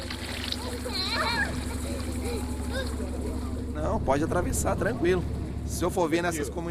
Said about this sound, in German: Man muss ja nur einmal in den Ufergemeinden zusehen, wie die Kinder im Fluss baden und spielen. Im Wasser wimmelt es von Piranhas, aber die Kinder werden nicht angegriffen, weil sie nicht verletzt sind.